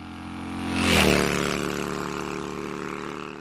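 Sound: motorcycle engine revving loudly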